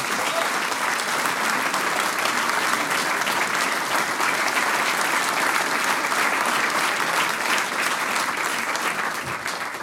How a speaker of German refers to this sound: das ist dein Applaus.